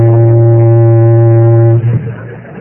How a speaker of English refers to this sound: Next thing you're going to tell us, you're hearing a boat whistle here in Pine Ridge.